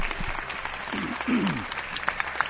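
A theatre audience at the Teatro Circo de Murcia applauds, a dense, steady crackle of many hands clapping, with a brief voice or cheer rising through it midway and a few sharper claps standing out toward the end.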